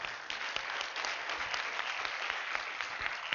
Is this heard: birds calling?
no